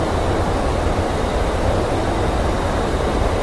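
A steady, unbroken roar of aircraft engines, dense and rumbling in the low end with a hissing wash above, holding the same loudness throughout with no voices.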